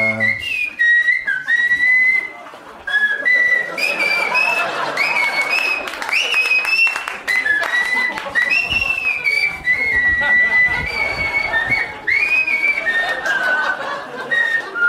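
Someone whistles a wavering melody, the tone sliding between notes, while a broad wash of applause and crowd noise rumbles underneath throughout.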